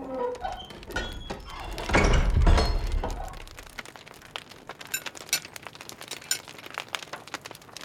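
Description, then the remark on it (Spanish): A heavy door is thrown open at the end of a corridor with a deep, booming thud and a low rumble, followed by scattered creaks and clicks that fade. No one speaks. “Al final de un pasillo, abrió de golpe una pesada puerta y me hizo pasar a una habitación amplia con una mesa dispuesta para la cena y una chimenea encendida.”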